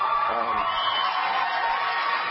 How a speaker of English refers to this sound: All right, so that's a lot of clapping and a ooh and an ah.